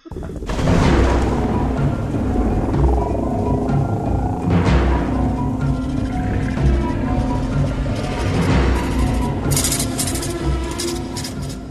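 A steady downpour of rain with deep, rolling thunder rumbling throughout, swelling into loud crashes a few times, creating a dense, continuous storm ambience with no voices.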